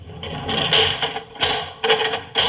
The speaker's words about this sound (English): The door. He's bolted it. Even you can't open it now, Holmes.